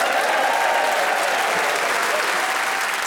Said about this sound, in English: Please whoop and cheer and generally go cray-cray for all four of them.